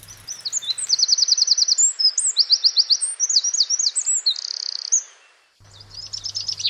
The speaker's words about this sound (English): On a warm day, you will hear birdsong.